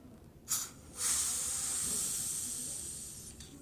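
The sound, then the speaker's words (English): A champagne cork is eased open gently, the way it is supposed to be opened to keep most of the bubbles in the bottle: a short puff of hiss, then a longer, steady soft hiss of escaping gas that slowly fades over a few seconds, with no pop and no voices. “so when you're opening champagne, that actually sort of ease the cork.”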